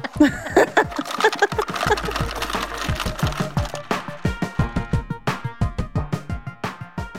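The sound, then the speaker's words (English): A hand-cranked card shuffling machine whirs and clicks through a deck, a rapid stream of mechanical ticks and card flutter that slows into a steadier, evenly spaced rhythm near the end. “You can just turn the crank of that shuffling machine.”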